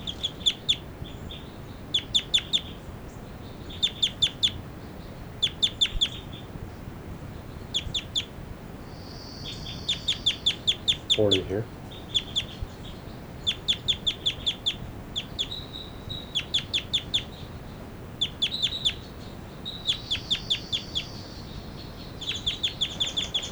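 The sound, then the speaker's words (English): A bird, bird 40, gives repeated flight calls: rapid bursts of short, high-pitched notes, each cluster following the last every second or so over faint steady background noise, with one brief low sound midway. “This is bird 40, giving flight calls.”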